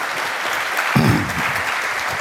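Steady applause from an audience at an ethical hacking event, welcoming a speaker to a talk on hacking the grid. It fills the whole clip, dense and even in loudness, with a brief voice-like murmur rising through it partway.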